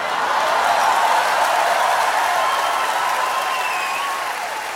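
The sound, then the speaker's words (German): A live audience applauds steadily, a dense wash of many hands clapping at once, staying loud throughout and easing off only slightly near the end. “Also kann ich mir vorstellen, dass die Zuschauer da bestimmt abgegangen sind. Das kam sehr gut an.”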